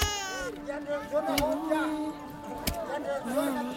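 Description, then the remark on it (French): A baby girl cries in wavering, drawn-out wails because she is hungry, steady over a few seconds, with faint background voices and a couple of sharp knocks. “Elle pleure parce qu'elle a faim.”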